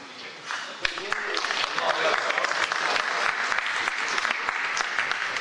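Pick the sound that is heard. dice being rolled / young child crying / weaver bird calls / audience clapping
audience clapping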